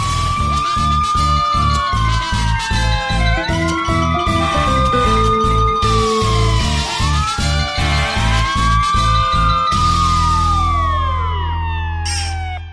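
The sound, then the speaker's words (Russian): The sirens of two fire engines and one ambulance wail together as they pull up to a house, their rising and falling tones overlapping loudly over a steady pulsing engine rumble. No one speaks. “Тут к дому, мигая и воя, подъехали две пожарные машины и одна скорая помощь.”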